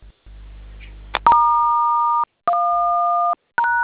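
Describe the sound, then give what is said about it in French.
Three loud, sustained phone keypad tones as star 1 is dialed a third time and then hash, each a steady dual-pitched beep lasting close to a second with short gaps between, after a low background hum. “Étoile 1 une troisième fois, puis dièse.”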